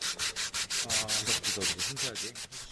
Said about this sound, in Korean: 다음 작업은 사포질입니다. 이거를 그러면 사포질을 네. 그냥 이렇게 하면 되는 건가요? 네, 그냥 예. 문지르시면 되고요.